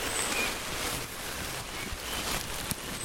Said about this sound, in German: Jetzt regnet es doch wieder.